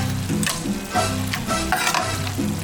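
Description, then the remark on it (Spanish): Gallo pinto sizzles and crackles in hot oil, a steady hiss broken by louder bursts as it is stirred, with a low humming tone running underneath and no talking. “Qué rico es comerse un buen gallo pinto y prepararlo con aceite en su punto para que mi pinto sepa al mejor gallo pinto.”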